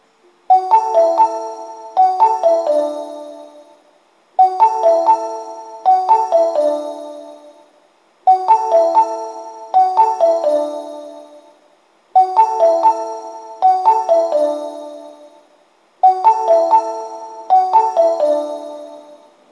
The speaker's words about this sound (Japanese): 3番線に千里中央行きが到着します。危険ですのでホーム柵から離れてお待ちください。